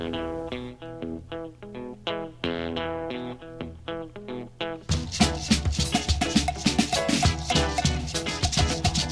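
A blues tune opens with a shrill, reedy harmonica playing a choppy riff, then a full band crashes in halfway through, loud and driving, with no singing yet.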